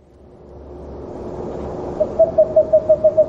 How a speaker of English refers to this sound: So that's the classic screech owl. Yeah. So those were young screech owls.